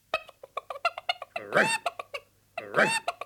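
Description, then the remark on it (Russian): A hen clucks loudly: a quick run of short, choppy clucks broken by two longer, harsher squawks, with no talking over it. “И что это ты, курочка, так раскудахталась?”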